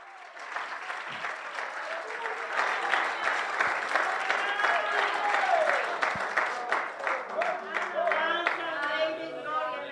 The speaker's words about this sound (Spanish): ¡Aleluya! Dale un aplauso al Rey de Reyes, Señor de Señores.